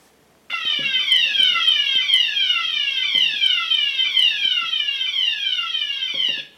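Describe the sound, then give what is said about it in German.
A loud building evacuation fire alarm sounds continuously, a rapid repeating sweeping tone pattern that starts abruptly and holds steady for several seconds, with faint thumps in the background. “Achtung, Achtung, dies ist eine Gefahrenmeldung. Bitte verlassen Sie das Gebäude über die nächsten Ausgänge.”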